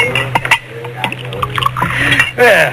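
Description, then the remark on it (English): Whiskey glugs from a bottle into a glass, with a few sharp glassy clinks as the bottle touches the rim, over a steady low hum. “Do you mind if I pour myself one?”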